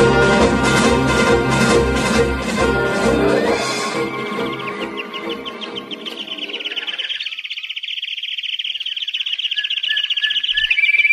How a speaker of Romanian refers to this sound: Frumoase sunt păsările, așa mi le-am închipuit. Fine, grațioase, încercând ca și voi oamenii să umple cu cântece zadarnice golul dintre cer și pământ.